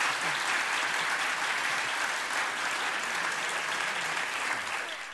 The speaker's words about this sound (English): I would, in fact, like to thank all the debaters and the audience for their very good work this evening. I think we could give them another round of enthusiastic applause.